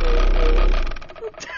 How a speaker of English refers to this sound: Is that him farting in there? Yeah.